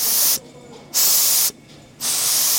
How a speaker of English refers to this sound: When you are finished making your prototypes or knitting your samples, you would bring them over to the large steam bed and you would take the iron and then steam the sample to relax it and see what the finished garment would look like.